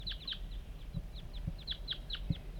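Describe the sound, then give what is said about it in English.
Wild birds coming in, three apparently male, call from a dead pine just beyond a net site in a quick series of high, chirping notes that dip in pitch, repeating irregularly over a low rumbling background with a few soft thumps. No one speaks. “49, the wild birds are coming now.”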